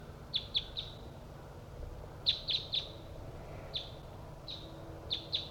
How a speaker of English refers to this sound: Decoy and Bird 3-4 responding to wild birds that are coming from the south. I'm pointed towards the wild birds.